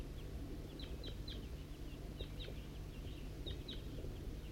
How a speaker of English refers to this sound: It's 8:21 and a wild flock of crossbills is coming from the east. It could be just one bird.